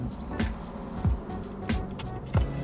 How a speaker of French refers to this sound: On gare nos vélos sur le parking bondé de la pharmacie, puis on se dirige vers la cité, sur la rue Édouard Forestier, très empruntée par les voitures.